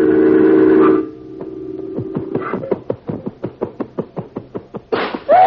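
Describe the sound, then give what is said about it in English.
A loud sustained tone cuts off, then a picture frame clatters down off a wall in a quick run of rattling knocks that fade before a final burst of noise. “The picture on the wall.”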